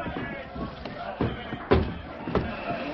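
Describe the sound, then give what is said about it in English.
Heavy wooden fort gates creak and clunk open, with three solid thuds spaced about half a second apart over a low murmur of voices. “All right, men. Open the gates.”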